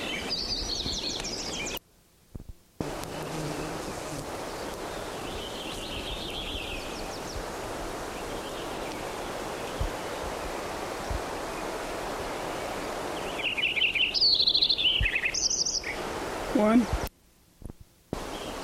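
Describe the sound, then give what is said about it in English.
A Lincoln's sparrow sings several high, bubbly warbling phrases over a steady rushing hiss, with softer bits early on and a louder, jumbled trill near the end. “Lincoln Sparrow number 9.”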